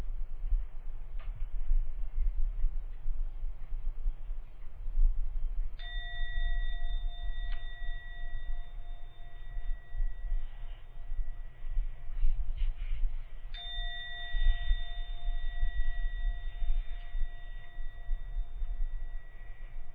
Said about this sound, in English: We'll now ring the gong 3 times. When the gong finishes for the 3rd time, open your eyes and come out of the meditation.